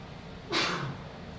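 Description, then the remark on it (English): A single sneeze: a short, breathy burst of hissing noise that swells quickly and fades within half a second, fairly soft against a quiet background with no talking. “Bless you.”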